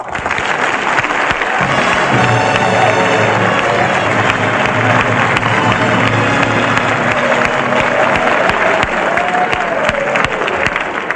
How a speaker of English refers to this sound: Well, thank you, Bob. That was a wonderful introduction, by the way. But why should I get all that applause? Well, the Ohio football team is in the audience.